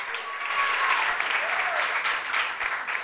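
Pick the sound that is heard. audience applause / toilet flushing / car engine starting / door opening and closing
audience applause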